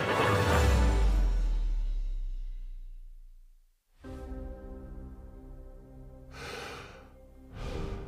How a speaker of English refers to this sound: Breathing out, breathing in, more precious than it's ever been. We can't take it for granted. Never in our lifetimes has that fact been clearer, that precious breath of life. It might start to shorten. It might struggle. It might cease.